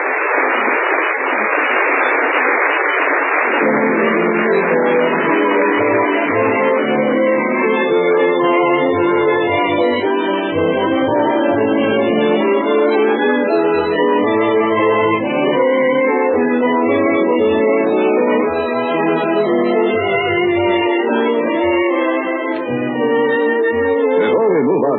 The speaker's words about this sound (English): Did the first nighters like it? Listen to the applause.